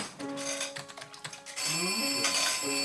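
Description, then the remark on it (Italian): An electronic telephone ringtone trills loudly and steadily, its bright tonal chirps turning into a sustained, insistent ring in the second half, heard alone. “Telefono! Chi va? Chi risponde al telefono?”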